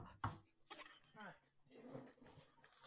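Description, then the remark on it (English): Cupboard doors bang open and shut with a sharp knock and a few duller thumps, alongside kitchen clatter, as someone rummages in a cupboard to fetch an item. Someone talks quietly underneath throughout. “I can hear cupboard doors opening and shutting.”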